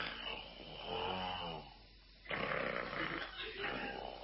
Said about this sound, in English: Hey, listen to that. I didn't know there was a sawmill on the premises. What? That's snoring. There's only one man I ever heard snore like that.